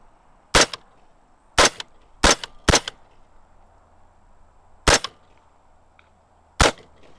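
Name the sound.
gunshots fired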